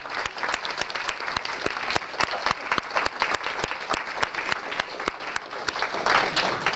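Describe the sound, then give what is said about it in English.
A crowd of people applauds steadily, a dense patter of many hands clapping at once, sustained and fairly loud throughout with no voices standing out, thanking the facilitators at the close of a church service. “So before concluding, I would like also for all of you to thank all of your facilitators here with an applause and thanksgiving.”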